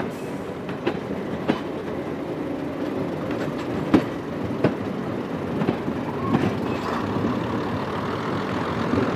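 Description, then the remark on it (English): A locomotive engine labors steadily as the train climbs uphill again after crossing a viaduct, a continuous low rumble with rhythmic clatter of wheels on track and occasional sharp metallic clicks, with no voices. “You can hear the engine kicking in now because we're back uphill again.”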